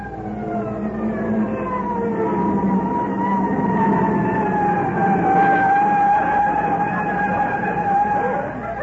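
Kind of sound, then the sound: vehicle, fire engine siren approaching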